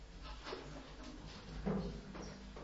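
A glasses case with glasses inside being handled: a few soft clicks and rattling knocks spaced out over a couple of seconds, quiet against a faint background hum.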